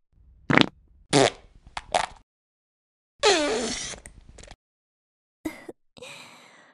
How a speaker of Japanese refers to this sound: ママのおならいっぱい出る。ママの臭いおならがいっぱい僕ちゃんのお顔に出ちゃう。